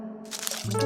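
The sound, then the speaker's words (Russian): A short burst of crackly, crinkling noise like paper being crumpled lasts about half a second, then gives way to a low, steady droning tone that grows louder. “Бумага.”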